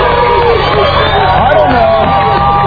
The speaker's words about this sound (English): Tony Perkins has gone coast to coast to California's capital, Sacramento. Hi, Tony. Good morning, …. Good morning, everybody. We got a crowd of people here.